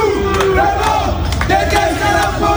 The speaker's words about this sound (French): Tout le monde déteste la police, scandent ces individus qui ont ensuite rejoint la place de la République.